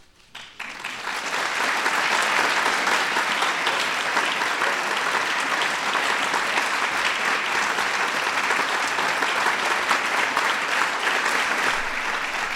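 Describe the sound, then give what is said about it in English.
An audience breaks into sustained applause for honorees at an honoring ceremony, building quickly in the first couple of seconds and then holding a dense, steady roar of clapping until the end, with no talk over it. “Let's give our honorees one more big round of applause.”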